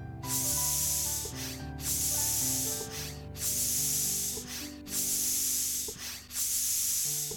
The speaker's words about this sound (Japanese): オッケー、セット完了。角度76度。 空気入れるよ。